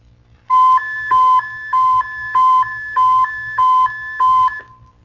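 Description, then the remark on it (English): An aircraft carrier's yodel warning signal, warning personnel that a command is about to be given: a loud electronic tone rapidly alternating between two pitches, sounding in about six evenly spaced bursts over a low background rumble. “The yodel on a carrier cuts through roaring sounds to warn personnel that a command is about to be given.”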